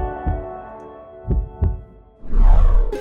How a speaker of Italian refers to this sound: E lo sentiamo. Battito dopo battito.